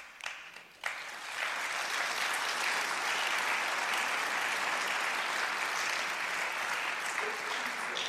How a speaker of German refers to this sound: Wir sagen mit diesem Applaus gemeinsam Dank und vor allen Dingen werden jedes dieser einzelnen Kinder wird Ihnen von Herzen danken für den Weg, den es gehen kann.